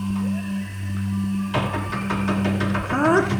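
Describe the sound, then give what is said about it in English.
A low steady hum gives way to a run of sharp, irregular knocks on the south entry, about half a dozen thuds over a couple of seconds, with a brief rising vocal sound near the end. “More knocking!”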